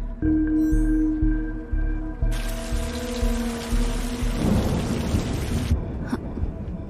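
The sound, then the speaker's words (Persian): A steady hiss of rain swells in for a few seconds and then cuts off, over a low, humming musical drone with deep rumbling thumps underneath. “چتر زیر بارون.”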